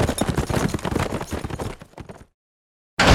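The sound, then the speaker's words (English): A dense, rapid clatter of hooves from several horses passing by as riders ride into the town of Buckskin, fading out after about two seconds into silence before a sudden loud burst of sound. “The killers rode on into Buckskin.”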